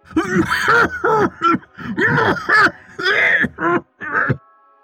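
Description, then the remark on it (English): A loud fit of coughing, about eight rough, throaty bursts in quick succession, voiced by a person imitating a strained, choking cough. “Just then, the Draugnar began to cough.”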